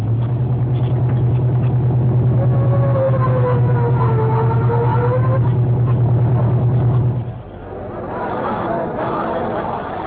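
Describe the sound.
A car engine drones loudly and steadily, its pitch rising and falling as the car speeds along on its way to a murder scene at the Crescent Garage on the east side, then drops away after about seven seconds into a murmur of voices.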